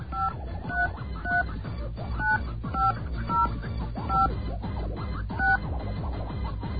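A quick run of telephone keypad tones, about ten short two-pitch beeps in an uneven rhythm, punched in to enter a card number on the TDK Talk 5 phone line, over a low rumbling background.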